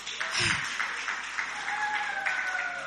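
A church audience applauds steadily for about three seconds, a dense wash of many hands clapping at an even loudness, with a thin high tone gliding faintly underneath.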